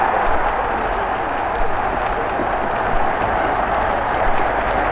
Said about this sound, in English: And look at that crowd again. The crowd is going absolutely crazy over on the bank. 11-0 to New Zealand.